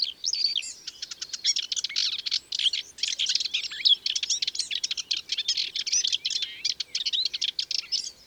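Two small birds chasing each other in a hedge sing in fast, tumbling bursts of high twittering and chattering notes that barely pause, overlapping each other for several seconds, with the sound of their wings and no voices.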